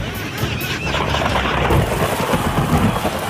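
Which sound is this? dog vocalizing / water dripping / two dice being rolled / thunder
thunder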